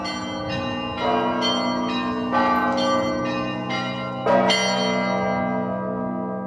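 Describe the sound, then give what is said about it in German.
Russian Orthodox church bells of the Peter and Paul Church on Musa Jalil Street in Kazan ring in a lively, overlapping peal, with repeated strikes every second or so over a sustained, resonant hum of lingering tones. No voices are heard. “Ein bisschen später und nur wenige hundert Meter von der grünen Moschee entfernt erklingt an der Mussa-Dschalil-Straße das Glockenspiel der russisch-orthodoxen Peter-Paul-Kirche.”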